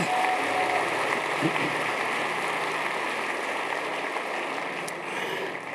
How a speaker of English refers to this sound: Let's give a hand clap to Jesus.